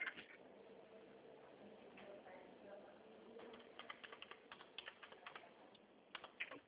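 Rapid clicking of keys on a computer keyboard as a person types up a proposal, a steady burst of typing with irregular taps over a low hum of background noise.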